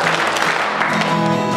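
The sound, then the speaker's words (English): Many hands clapping together in a dense, steady patter, fairly loud, with a faint tonal voice or music briefly audible underneath. “I like to clap my hands.”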